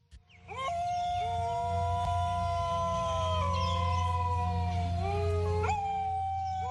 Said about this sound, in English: Dingoes are descended from South Asian wolves. They rarely bark but tend to howl. They're thought to have arrived in Australia with Asian seafarers about 3,500 years ago.